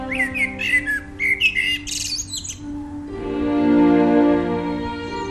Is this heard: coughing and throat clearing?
no